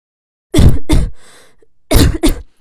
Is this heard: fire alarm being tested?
no